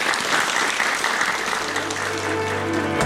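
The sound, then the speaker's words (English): A room full of people claps steadily, a dense and fairly loud wash of applause that continues throughout, with a faint tonal hum emerging underneath toward the end. “Can we have a round of applause?”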